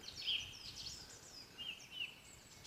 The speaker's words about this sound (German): Die Vögel singen hier. Da kommen wir gleich noch drauf, was sie hier alles so machen.